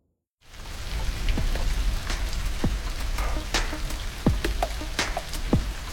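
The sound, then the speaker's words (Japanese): Steady heavy rain pours down in a storm with strong wind after a brief silent start, a dense continuous hiss with scattered louder drips and splashes, no voices. “自主練してたら雨と風がすごくひどくなるし、慌てて駅に行ったら目の前で運休だし、制服びしょびしょで着替えなきゃだし。”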